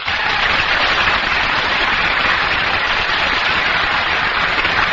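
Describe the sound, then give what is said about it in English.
A large studio audience applauds loudly and steadily as Milton Berle is introduced on a broadcast, a dense crackling wash of clapping that holds at full strength for the whole stretch, with no voices heard. “Take down the applause sign.”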